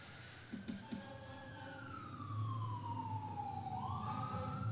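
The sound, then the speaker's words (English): A fire truck siren wails as it passes outside, its tone sliding steadily downward, with a low engine rumble underneath and a few faint knocks early on. “Hello, fire truck.”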